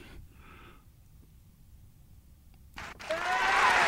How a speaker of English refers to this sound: can you give a round of applause for...